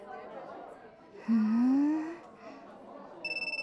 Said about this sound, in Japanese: ああ、電話？どうぞどうぞ。